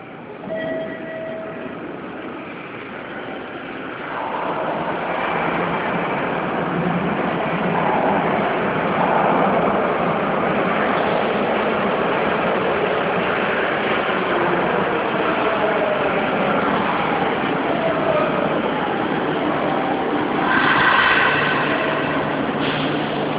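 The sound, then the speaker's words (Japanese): A subway train bound for Nagoya Dome-mae and Yada rumbles into a station platform in Nagoya, its broad roar swelling after a few seconds and holding steady, with a brief brighter screech of wheels or brakes near the end. “番ホーム、矢事方面、名古屋ドーム前、矢田行きが参ります。白線の内側でお待ちください。”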